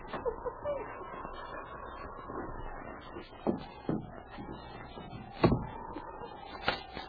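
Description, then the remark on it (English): A heavy wooden bar scrapes and thumps as a door is unbarred and pulled open, with several sharp knocks and a creaking swing over a low background hum. “I'll unbar the door.”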